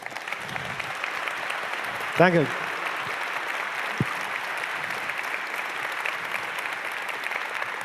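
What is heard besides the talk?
audience applause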